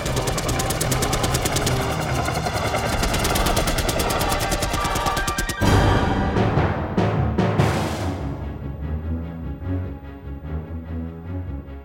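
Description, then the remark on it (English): Loud, rapid cannon fire from cannon crews on a ship's deck roars in a continuous stream for several seconds, then breaks into a few heavy bursts whose echoes rumble away into a fading low din. “He glanced back at Grant, unable to speak over the roar of the cannons firing.”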